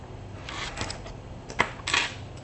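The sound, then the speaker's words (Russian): A printer prints an apartment floor plan, running in short mechanical bursts, whirring and clicking unevenly, with a sharper snap and a final louder whir near the end. No voices. “Это планировка как? Так, сейчас я ее распечатаю.”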